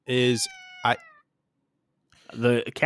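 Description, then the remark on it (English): A cat meows loudly and close by, a couple of drawn-out cries with falling pitch, a short pause, then another long, insistent meow. “The cat has opinions on Kevin Nash.”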